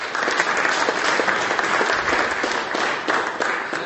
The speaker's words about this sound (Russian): Отрадно, что наша прославленная женская команда блестяще выступила в сезоне 2024 года, завоевав все трофеи. Вам аплодисменты.